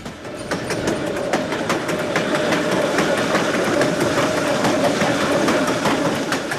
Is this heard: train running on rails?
yes